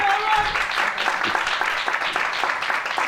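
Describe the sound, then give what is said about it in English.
An audience claps steadily, a dense, even patter of many hands that holds at a fairly loud level for the whole stretch, with no voices standing out above it. “They're clapping behind, a couple of words.”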